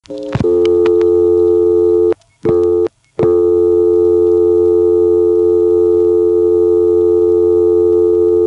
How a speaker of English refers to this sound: Might it be that this NX1 has a reorder at the end of every phone call instead of the ubiquitous busy signal? Let's let the dial tone time out and find out.